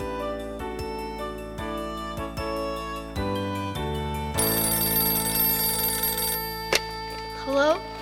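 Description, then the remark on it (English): A telephone rings with rapid, repeated bell-like chimes over a busy, noisy background, followed by a brief voice near the end. “The phone rings.”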